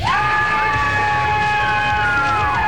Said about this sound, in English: All right. Everybody's going to yell. Ready? Right here.